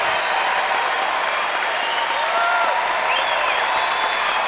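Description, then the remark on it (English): A large live audience applauds and cheers steadily for performers playing live, a dense wash of clapping with whoops and shouts rising above it, loud and sustained throughout. “The best crowd we've ever played in front of.”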